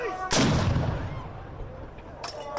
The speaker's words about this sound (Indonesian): Suasana pun semakin meriah ketika dentuman meriam terdengar, menandai waktu berbuka puasa pada hari pertama Ramadan di Turki.